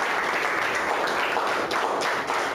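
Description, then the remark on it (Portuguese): A church audience applauds steadily in praise of God after a prayer, a dense wash of many hands clapping at once with no pauses, loud and sustained throughout, with no voices standing out. “Aplauda ao Senhor.”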